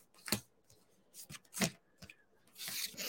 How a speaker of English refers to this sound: I'm not the best at shuffling cards sometimes.